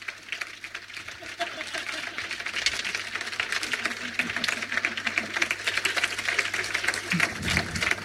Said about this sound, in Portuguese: Marino Freitas, uma salva de palmas!